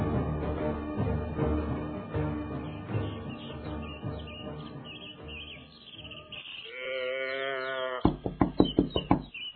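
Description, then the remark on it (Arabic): A quick series of about six or seven loud knocks on a door near the end, after a stretch of background music and a brief bird-like call. “افتح الباب رحمك الله.”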